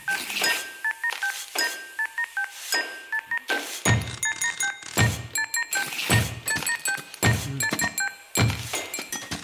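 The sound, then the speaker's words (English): Carol of the Bells is tapped out on office and warehouse objects: bright tonal telephone beeps carry the melody over rhythmic thumps, clunks and stamps from coffee cups, stamping feet and a phone slammed down, building to a busier, louder pattern halfway through. “But it is played entirely on stuff you would find in an office or a warehouse.”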